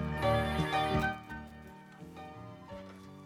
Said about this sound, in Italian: Allora, mi pare che il telefono ha squillato.